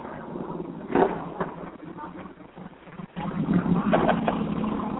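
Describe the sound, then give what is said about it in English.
A motorcycle gang's engines rumble outside with a low, steady drone that swells louder partway through as the bikes roll up, their revving tones layered over wind-like noise. “Oh, Jesus Christ, I got the motorcycle gang rolling up here.”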